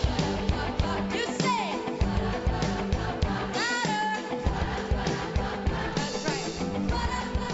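A large concert crowd sings along loudly with the music, many voices blending into a dense, steady roar of melody that fills the space without pause.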